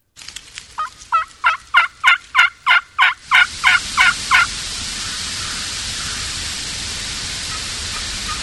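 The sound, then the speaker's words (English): Two flocks of roosted wild turkeys, a hen among them, answer a hunter's calling at the top of a big holler on a windy morning. They give a quick, evenly spaced run of about a dozen loud yelping notes, then a steady windy hiss takes over once the calling stops. “And this is a roosted turkeys, two flocks on a big holler at the top head of a holler, and they come in from above and set up on them and let them fly down and get these turkeys to respond to calling.”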